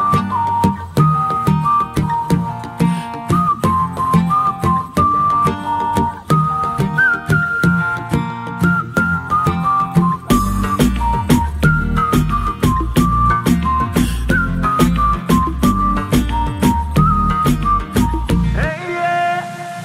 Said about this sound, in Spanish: Silbamos.